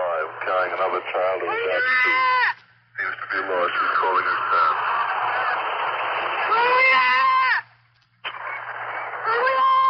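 young boy screaming

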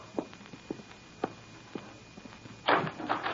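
door being opened

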